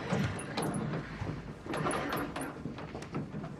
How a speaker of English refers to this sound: Together, they slide the dresser in front of the door.